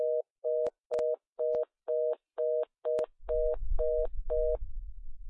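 A participant's phone on a group call gives an off-hook tone, beeping in a fast, steady on-off pattern, about ten pulses with a few sharp clicks, while a low rumbling background noise rises partway through.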